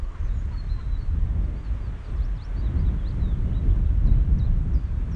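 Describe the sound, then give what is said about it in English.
Faint chiffchaff song: a steady run of short, high two-tone notes repeating over a heavy low rumble of wind or background noise, with no talking. “The sound of summer of the chiff chaff.”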